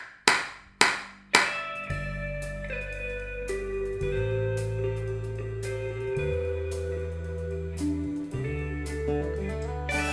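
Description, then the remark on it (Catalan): Four sharp, evenly spaced hand claps count in, then a full band enters with deep sustained bass, chords and a steady beat that carries on loudly. “Aplauda cuatro tiempos ahora.”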